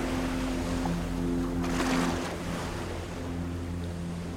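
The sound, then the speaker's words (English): Long boats sailing into the night: an engine drones steadily on open water, with a surge of splashing waves midway and a constant wash of wind and surf, no voices. “The long boats sail into the night.”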